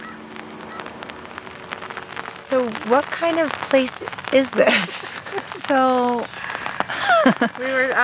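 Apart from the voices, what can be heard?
rain falling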